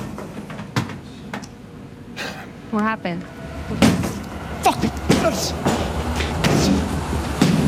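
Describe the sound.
Heavy thuds and slams strike a wall in irregular bursts, loud and percussive, with a man shouting angrily over and between the blows.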